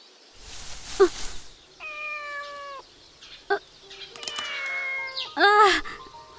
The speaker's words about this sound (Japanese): 猫。猫。猫。猫猫猫猫。